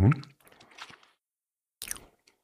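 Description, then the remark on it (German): Wet squishing mouth sounds as a small piece of soft cheese is pressed with the tongue against the palate during cheese tasting, a smacking burst followed by a quiet pause and a second short squelch. “dann nimmst du ein kleines Stück und zerdrückst es mit der Zunge oben am Gaumen.”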